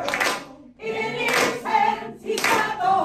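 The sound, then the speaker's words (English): Gavin Newsom, sitting on a kid's chair, claps along with a song that students are being led in, a few sharp, fairly loud claps landing roughly in time with the music, which plays steadily underneath. “And Newsom is sitting there on a kid's chair, bent up, and he's clapping. Strange. Like this, keeping the beat of the song.”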